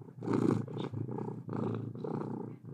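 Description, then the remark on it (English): A cat purrs steadily, a low continuous rumble pulsing in a slow rhythm with each breath, with no voices over it. “Should we start the episode with a little kitty ASMR?”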